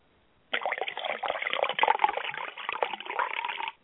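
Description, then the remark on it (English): Water is poured out steadily for about three seconds as a ritual offering, a continuous splashing trickle with small bubbling fluctuations, starting abruptly and ending cleanly with no voices. “Now, we make an offering to the Keeper of Gates. Keeper of Gates, accept this sacrifice of water.”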